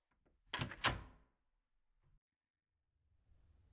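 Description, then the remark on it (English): An unlocked door opens with two quick, sharp clunks of the latch and handle, followed by a soft low thump and quiet footsteps or movement afterward. “I left the door unlocked.”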